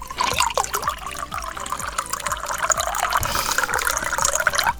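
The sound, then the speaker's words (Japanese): Beer pours steadily into a glass with a rising gurgle and repeated glugging pulses, ending in fizzy, bubbling foam that spills over onto a pen tablet. No one speaks. “ペンタブに泡が、ちょっと待って。 ペンタブにもビールを飲ませようとか粋な計らいだね。”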